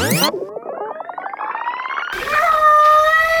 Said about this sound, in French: Mais écoute bien ce qu'il dit quand il miaule. Il dit « Go away ». Hein? Si je ralentis un peu le tape sur ma bobine